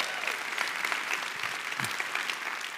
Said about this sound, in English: Yeah, come on, give that round of applause.